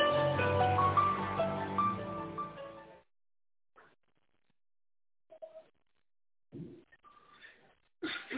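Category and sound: human body sound, sneeze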